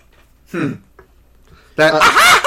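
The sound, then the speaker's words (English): A voice imitates the cackling laugh of Scratch the Robot Chicken from a cartoon: one short squawk, a brief pause, then a loud, harsh, warbling cackle. “They even had one of the minions of Lord Boxman actually do the laugh that Scratch the Robot Chicken had.”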